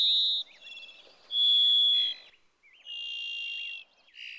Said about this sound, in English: The robin's close cousin, the brightly colored varied thrush, has a distinct call reminiscent of a gym teacher's whistle. It's actually two separate notes, slightly off pitch, called at the same time.